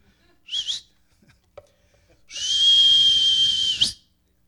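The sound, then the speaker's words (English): A man whistles twice: a brief high note, then after a pause a long, steady, piercing whistle held for over a second, loud with a breathy edge. “And then he whistled.”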